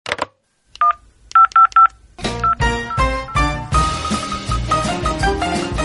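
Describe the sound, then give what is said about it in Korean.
Five short, clear telephone keypad tones beep in quick succession, one then a rapid run of four, before music swells in and takes over. “네, 그럼 당장 전화해서 한번 알아볼게요.”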